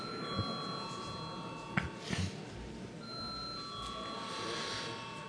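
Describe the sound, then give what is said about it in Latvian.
A parliamentary voting bell rings steadily for several seconds as a sustained electronic tone, calling deputies to vote on sending a bill amending the Education Law to committee, over a low murmur of many people with a few soft knocks and shuffles. “Paldies, viens deputāts runājas par viens pret likumprojektu nodošanu komisē, lūdzu zvanu.”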